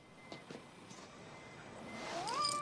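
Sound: cat meowing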